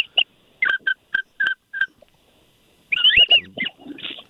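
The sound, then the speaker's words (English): A duck call whistle blown to call ducks: a run of short, high, two-toned whistle notes repeats at a quick, even pace, then breaks into a louder, warbling flurry of whistled peeps and chatter, clear with no talking. “Oh, that sounds like a good whistle there.”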